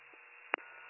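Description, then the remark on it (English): A single short telephone keypad tone beeps sharply over a steady, hissy line, with a fainter blip just before it, as someone dials a phone number. Nobody speaks. “I'm calling a phone number right now.”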